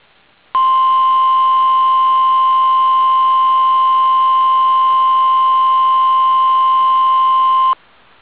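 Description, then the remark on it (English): A loud, steady electronic warning tone, a weather radio warning alarm test from the Weather Service office in Portland, Oregon, holds one unbroken pitch for about seven seconds, starting and stopping abruptly over faint background hiss, with no talking. “The proceeding was a test of no warning alarm.”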